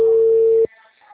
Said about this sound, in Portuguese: Chegou a notificação de atenção da chuva?